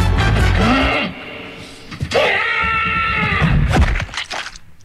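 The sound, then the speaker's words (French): A heavy, low thud of a body slamming into a wall after a run-up meant to force open a heavy door that was missed. It is followed by a sharp knock and a long, strained, wavering cry of pain that ends in another sharp hit. “La porte était un poil de cul sur la droite, ça c'était le mur.”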